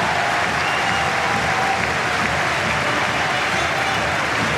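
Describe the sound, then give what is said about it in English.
A tennis crowd applauds steadily after a point in a match involving Sinner, the dense patter of many hands clapping filling all 4.6 seconds at an even, loud level with no pauses or talking over it. “And that's got the crowd going again.”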